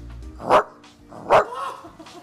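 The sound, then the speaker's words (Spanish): A person imitates a dog, giving two sharp, loud barks about a second apart, with a brief breathy trailing sound after the second one. “Me encanta cómo ladra.”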